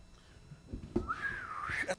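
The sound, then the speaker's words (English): A person whistles a single wavering note that glides up and down for under a second, preceded by a few soft breathy thumps. “I wish I could whistle.”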